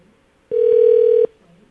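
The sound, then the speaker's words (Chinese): A phone line's ringing tone, as a call is placed again, sounds once as a steady, loud electronic beep lasting under a second, clear with no voices, then drops back to near silence. “哇， 再打一次啊！”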